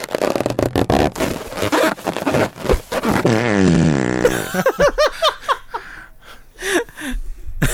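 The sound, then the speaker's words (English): A loud, sputtering fart: a rapid run of crackling bursts, then a long wavering squeal, followed by short gasping, laugh-like breaths. “Oh, sorry, that Frank, came out. Oh, it was a tight fit, but it was.”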